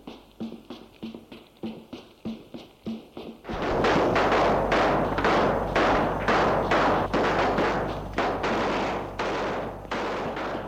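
gunshots

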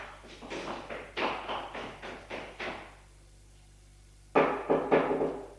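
knocking on a door

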